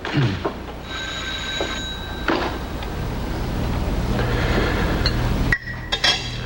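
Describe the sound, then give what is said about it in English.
A telephone rings at home during dinner with a bright, sustained metallic tone over a steady, noisy background, with a few faint clinks around it and no voices. “His wife goes to answer the phone.”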